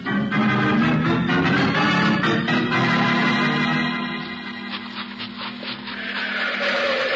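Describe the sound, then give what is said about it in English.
A car engine starts and runs as a loud, steady mechanical rumble with a low humming drone, irregular clicks and rattles, dipping briefly before swelling again. No one speaks. “Yeah, I hear it, Jake. Car starting. A car starting.”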